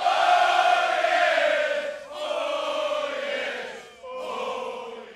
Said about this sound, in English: Then, from the horns of the priests came a loud and long blast. And like thunder and lightning, the Israelite army filled the air with their mighty shouts.